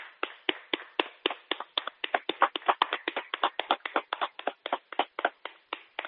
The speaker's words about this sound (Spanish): Son las 8 ahora. Hay que aplaudir.